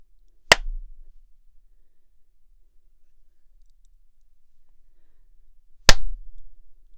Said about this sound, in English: Hello, I am now back in the booth and I'm going to give you three well-spaced claps just so you can see how it echoes.